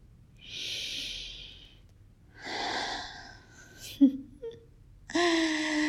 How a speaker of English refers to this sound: And once I've held them, massaged them, and played with them, I like to lean down and sniff them like this.